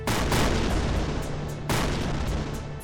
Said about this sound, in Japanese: 黒く巨大な戦艦の姿、大地を揺るがす砲撃の音